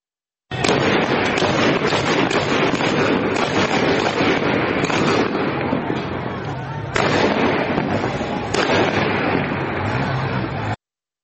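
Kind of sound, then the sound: impact, heavy gunfire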